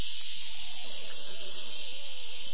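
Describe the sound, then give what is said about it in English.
A voice imitates a steak being brought out sizzling, with a steady, breathy hiss held for a couple of seconds, loud, with no words spoken. “Imagine a steak being brought out to you, sizzling like a fajitas and chilies.”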